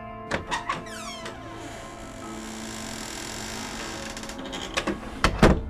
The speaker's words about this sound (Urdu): جیسے ہی ہم اپنے گھر واپس پہنچے اور جو ہی دروازہ بند ہوا